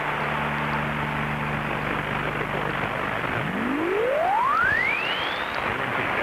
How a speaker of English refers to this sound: That whistle you just heard, that was the answering machine starting up.